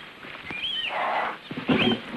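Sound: lion roaring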